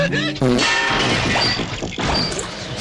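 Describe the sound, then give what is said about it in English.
A loud sound effect of the Truth Social servers crashing: a brief whining tone gives way to nearly three seconds of continuous clanging, smashing, metallic clatter with bell-like rings. “By the way, before we wrap up the show, let's check in with the Truth Social servers. Still not sounding good. It's crashing.”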